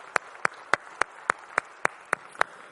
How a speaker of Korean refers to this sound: 오늘도 우리의 찬양의 제사를 받아주신 주님께 영광의 박수를 올려드리겠습니다. 할렐루야.